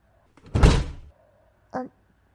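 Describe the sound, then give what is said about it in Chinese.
A hotel room door pushed shut with a loud thud, followed a moment later by a short, higher-pitched latch click. No one speaks. “别关门啊，这么晚了，我也该回去了。”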